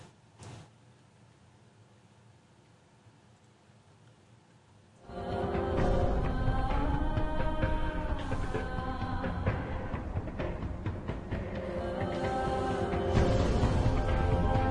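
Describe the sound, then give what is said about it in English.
A TV series intro: after several seconds of near silence and a brief click, loud theme music suddenly bursts in and plays steadily to the end, with no voices. “This is the intro to a TV series Two-Door Dixon was in called Transitions.”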